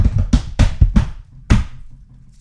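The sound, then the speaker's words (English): A quick run of hard taps or thumps on a surface, about five in a loose rhythm, ending with one heavier hit after a short pause, like an improvised drum roll, given before picking out of a hat. Fairly loud. “Do you want a drum roll? Yes, please.”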